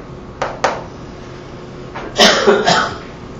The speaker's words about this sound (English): I'm not so well, so there'll be some coughing, it seems.